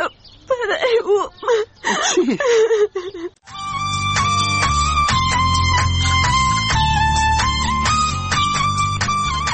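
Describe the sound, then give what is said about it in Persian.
A girl whimpers and sobs in broken, wavering bursts for a few seconds, then steady instrumental music starts and carries on. “تو خو گریه میکنی، چی گپ است؟”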